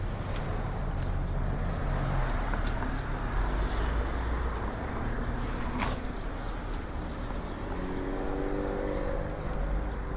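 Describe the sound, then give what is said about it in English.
A bus's engine rumbles amid steady street traffic in the Clifton neighborhood of Louisville, its low drone shifting near the end as it slows to a stop for railroad tracks. Nobody speaks. “And there's a bus there stopping for the tracks.”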